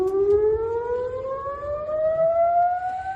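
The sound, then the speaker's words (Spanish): A civil defense tsunami warning siren in Puerto Rico wails steadily, its tone slowly rising in pitch over a few seconds, loud and sustained with a low rumble of outdoor background noise beneath it, sounding on a Tsunami Warning Center alert after a magnitude 7.6 earthquake in the Caribbean Sea. “Eran las sirenas sonando hace unos minutos en Puerto Rico.”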